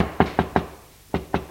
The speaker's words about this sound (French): Vers 18h, l'on frappe à la porte.